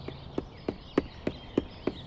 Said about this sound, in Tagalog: Maya-maya narinig ko na lang ang ilang magkakasunod na yabag na papalapit sa pwesto ko.